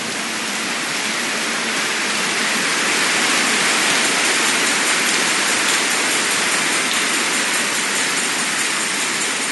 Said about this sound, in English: Now, I'm not saying, amen, go ahead, you can clap for the Almighty God.